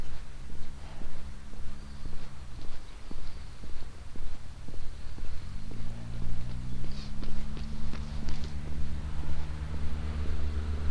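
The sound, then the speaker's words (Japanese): Quick, rhythmic footfalls tap along a hard path outdoors as a runner coming from the front jogs past, set against a steady low droning hum; nobody speaks. “あ、ランナーが前から来た、ちょっと黙ります。”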